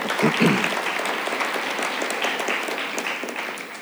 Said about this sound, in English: We should give them a round of applause, guys.